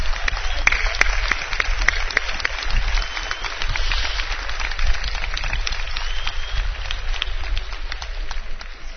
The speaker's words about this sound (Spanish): Un aplauso.